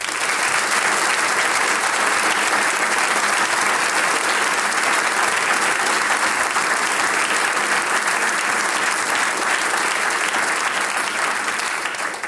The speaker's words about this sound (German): Der Mehrzwecksaal da in der Mittelschule in Vorau ist natürlich auch dem Herbst entsprechend wieder herrlich herbstlich dekoriert. Und jetzt schicken wir unseren Zuhörern in nah und fern gleich einmal einen kräftigen Applaus hinaus.